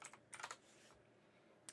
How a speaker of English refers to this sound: Typing sounds.